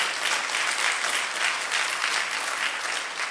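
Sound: audience applauding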